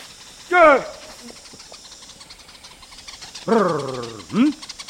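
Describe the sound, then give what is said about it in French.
A Yao honey hunter gives a rolling trill followed by a grunt, repeated twice, loud, against a steady outdoor hiss, with no clear bird reply. The call is used to summon the greater honeyguide bird. “Ils appellent le grand indicateur en émettant un tri suivi d'un grognement, auquel répond l'oiseau.”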